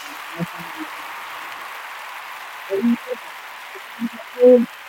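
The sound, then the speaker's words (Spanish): A steady, even wash of recorded applause runs through the whole stretch at moderate volume, with a few brief, muffled voice fragments poking through underneath. “Que es que mientras suena la pista de aplausos no se te oye a ti, tío.”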